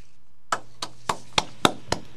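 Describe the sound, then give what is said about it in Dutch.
A single person claps six times at a steady, fairly quick pace. Each clap is sharp and crisp, with a short ring after it, over a faint low hum and no talking. “Ja, ik zit hier alleen te klappen.”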